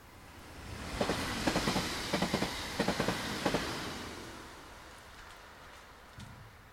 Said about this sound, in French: Et oui, c'est déjà le son du train, ça veut dire que Poesio, c'est déjà fini.